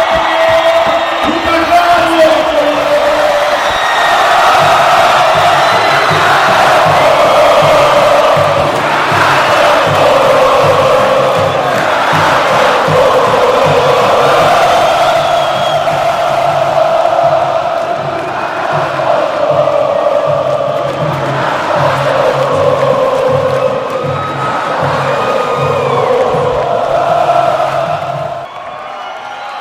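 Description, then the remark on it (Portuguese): A packed stadium crowd of São Paulo FC fans at the Morumbi, on a sunny day, roars and chants in unison to welcome Kaká back, loud and sustained for the whole stretch, with swelling waves of cheering over a steady rhythmic pulse underneath. “ensolarado, onde a torcida foi em peso para recebê-lo.”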